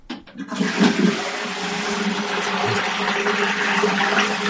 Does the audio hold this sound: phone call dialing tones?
no